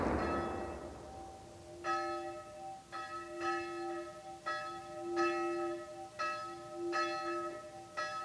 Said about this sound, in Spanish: En el campanario de la iglesia tan solo suele colgar una campana pequeña, la de difuntos.